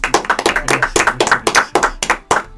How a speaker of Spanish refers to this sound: Por favor, preparen las palmas. Fuerte el aplauso para recibir a